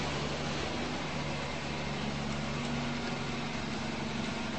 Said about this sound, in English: It's the garbage truck we have to tolerate, the morning serenade.